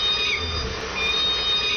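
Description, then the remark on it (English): Killer whale calls of the K-pod family group, recorded underwater by a hydrophone: a series of short, high, squeaky mewing cries that sound like a bunch of kittens, repeating about three times over steady hissing water noise. “K-pod, like a bunch of kittens.”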